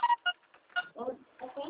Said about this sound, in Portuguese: Nossa, seu pai te ligando.